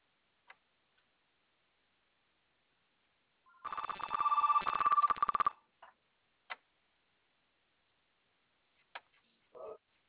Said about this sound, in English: Bert, would you answer that? Well, it's the home phone.